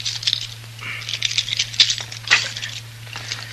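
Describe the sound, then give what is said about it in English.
Keys rattle and jingle in a jail cell lock, a busy run of bright metallic clinks and scrapes lasting a few seconds, with a steady low hum underneath and no voices. “Haven't used this cell for so long, I've almost forgot which keys it is.”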